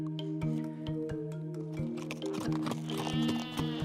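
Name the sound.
sheep bleating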